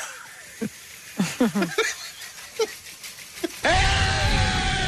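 A few short, sharp vocal outbursts give way to a man screaming "they did it" about the Knicks as loud as he can, a loud, raw, sustained yell that fills the final second.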